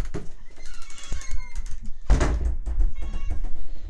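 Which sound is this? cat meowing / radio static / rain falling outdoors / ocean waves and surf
cat meowing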